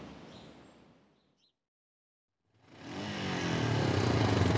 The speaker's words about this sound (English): Hey, steady on, you'll wear the engines out. Now remember what Gavin said before letting us loose, yeah? We need a few revs to go up this slope, Kenton.